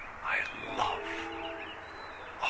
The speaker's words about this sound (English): You know, I got a beautiful robin and a train whistle. I love the sound of trains. Could be CN or could be the, that's the GO train. Isn't that nice?